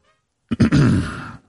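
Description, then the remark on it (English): A man clears his throat before answering, two quick rough catches followed by a longer raspy rumble, loud against otherwise silent surroundings. “And I'm not excited to hear it if he had to clear his throat before he answered.”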